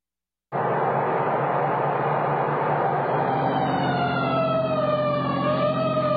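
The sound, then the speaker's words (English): A fire engine siren, responding to an alarm on Pine Street, wails steadily and loudly, its pitch sliding slowly downward over a rumbling engine drone, continuous from a brief silent start to the end. “So why this siren?”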